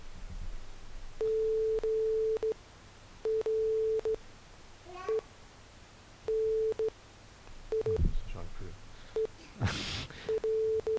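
A steady electronic tone keys on and off in Morse code beeps, long dashes and short dots in an irregular rhythm, with a faint murmur of voices and a brief rustle partway through.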